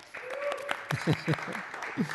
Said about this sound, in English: Let's see, how many vote for love and devotion? Let me hear by a sound of applause.